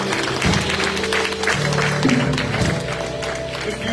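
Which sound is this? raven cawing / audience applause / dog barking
audience applause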